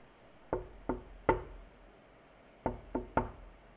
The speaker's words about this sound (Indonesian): Tiba-tiba, terdengar suara pintu istana diketuk oleh seseorang.